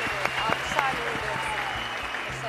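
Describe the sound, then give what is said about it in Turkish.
An audience applauds steadily throughout, a dense, continuous patter of many hands clapping at an even volume, with faint voices mixed in beneath the clapping, on an Acun Medya show with a jury. “Seyircilerinden de bana verdikleri o enerji için, bana verdikleri alkışları çaldığı için, enerjili verdiği dolaydan için çok teşekkür ederim.”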